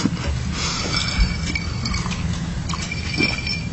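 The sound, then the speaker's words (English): A glass of water clinks a few times as someone drinks, with soft irregular taps and handling noise over a steady low background hum, no talking. “Sorry, my mouth is so dry. Some water right there.”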